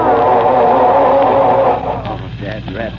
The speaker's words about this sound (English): I'm trying to get this dad-ratted car started, if you must know.